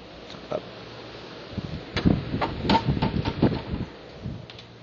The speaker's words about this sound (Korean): 기침을 많이 하시네.